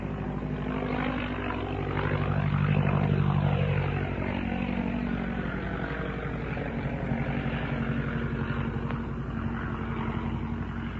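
An old propeller plane's OX-5 piston engine, about 90 horsepower at full bore, drones steadily as the plane flies across a field at roughly 65 to 70 miles an hour, swelling louder as it passes around the third second, then settling into a continuous rumbling hum with no voices.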